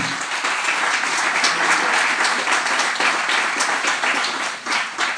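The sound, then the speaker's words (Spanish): A crowd bursts into sustained, dense applause for the Lord during a sermon, many hands clapping at once in a steady roar that holds loud throughout with slight swells, no voices rising above it. “Dar un aplauso al Señor.”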